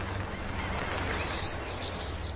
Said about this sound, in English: As Vaux's swift numbers reach a peak in mid-September, they attract attention from the locals. Cooper's hawks and peregrines pluck a meal from the tumbling mass of birds.